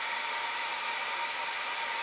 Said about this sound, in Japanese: え？ドライヤーで聞こえない？もう、好きな彼女の声ならドライヤー越しでも聞こえるでしょ？